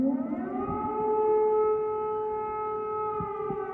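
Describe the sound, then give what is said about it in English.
An air raid siren wails steadily in Ukraine on the third day of the war, its sustained tone holding a harmonic-rich drone with a slight rise at the start, continuous with no voices present. “I'm listening to the sirens and distant explosions all day, some not that distant.”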